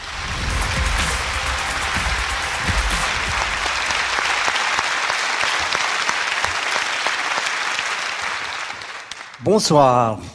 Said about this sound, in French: Il est président d'honneur de l'association Humanité et Biodiversité. Je vous demande de lui faire un tonnerre d'applaudissements. Voici Hubert Reeves.